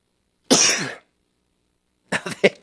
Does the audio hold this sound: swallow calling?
no